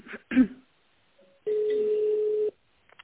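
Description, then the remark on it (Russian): A single steady telephone ringback tone hums for about a second, clear, following a couple of short throaty bursts like a cough and a faint brief beep. “Там гудки не поставил, звук.”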